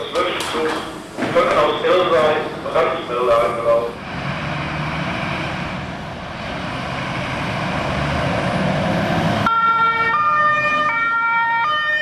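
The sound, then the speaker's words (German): A big red fire engine pulls out with a rumbling, rising engine roar and blue lights, then its loud two-tone siren starts, alternating steadily between a high and a lower pitch. “Dann starten die großen roten Einsatzfahrzeuge mit viel Lärm und Blaulicht”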